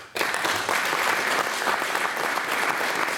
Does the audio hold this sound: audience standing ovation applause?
yes